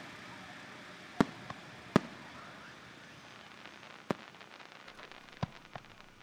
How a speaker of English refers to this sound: watching fireworks with his family at the Deer Valley Park in North Phoenix.